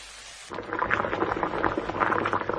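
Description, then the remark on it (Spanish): After a brief near-silent moment, a loud, steady sizzle erupts, a dense crackling hiss with many small pops, as half a glass of white wine is poured gradually into a hot casserole pan over maximum heat and evaporates. “Ahora, con cuidado para que no nos salpique, echamos poco a poco medio vaso de vino blanco y ahora sí, subimos el fuego al máximo y dejamos que se evapore.”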